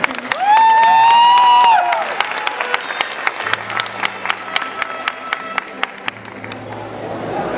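An audience applauds with steady, crisp clapping that thins out over several seconds, opening with a long drawn-out cheer from one voice riding over the claps.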